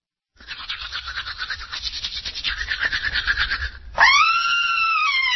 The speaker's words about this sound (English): You just heard someone seeing pink in her sink after brushing. She's screaming because she knows bleeding gums can mean gingivitis